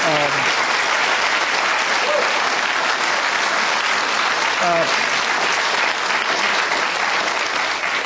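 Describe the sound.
Sustained audience applause, a steady dense patter of many hands clapping at an even loudness throughout, with a few faint voices calling out briefly in the mix.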